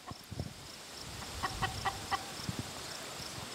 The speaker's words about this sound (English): Now, these ladies, they're two-legged and they have these red combs. They're chickens. They're coming towards us.